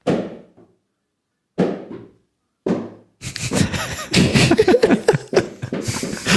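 Three hard, sharp smacks of a hard rubber bouncy ball slammed full force onto the floor, spaced about a second apart, each with a short ringing decay, followed by a stretch of loud, noisy commotion.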